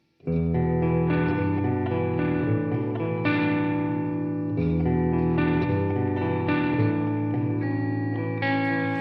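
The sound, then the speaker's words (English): A live music run-through played with extra reverb: a sustained instrumental passage with layered, chorus-like tones washing together and ringing out. It plays steadily and fairly loud with no voices. “So one run through with more reverb.”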